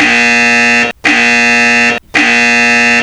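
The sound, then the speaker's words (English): A loud, harsh game show buzzer blares three times in a row, each blast about a second long and separated by brief gaps, with no voices present. “So shut your fucking mouth because the buzzer's up and running.”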